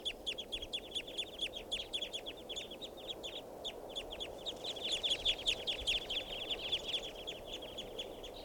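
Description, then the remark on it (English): A flock of about 10 wild birds, mostly adults, calls together from a tree right above the recordist: a dense, steady chorus of short, high, overlapping chirps that swells slightly toward the end, with no voices. “So, it's recording some wild birds.”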